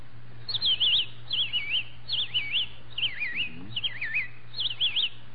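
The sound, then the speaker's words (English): A person whistles an imitation of a robin's song: six bright, warbling phrases in a steady rhythm, clear, over a faint low hum, with no talking. “A robin. Robin?”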